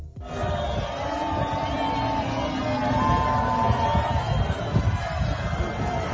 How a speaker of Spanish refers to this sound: le gritaban fuera Dilian. El hecho afectó tanto a la mandataria que ella se refirió a las chiflas en medio de su discurso y pidió respeto. Esto se escuchó en el evento.